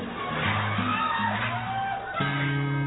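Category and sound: crowd, audience clapping and cheering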